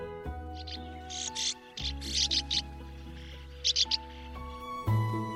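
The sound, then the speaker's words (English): Dry, raspy sand martin twitters come in short clustered bursts, a few quick chirps at a time, over a steady low musical backing that carries on throughout. “You can listen out for their call like this.”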